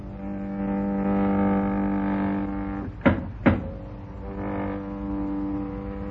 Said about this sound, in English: Jerry and Joan take a desperate chance in going down into the lower levels of the island, and in trying to escape from one of the Euclidean guards, they are climbing down the inside of an elevator shaft when the elevator starts down after them.